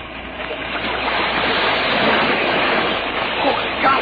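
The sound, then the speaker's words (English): Loud, steady rushing of a strong river, a dense continuous roar that fills the whole span with slight surges, unbroken. “That river's too strong, even for Dick.”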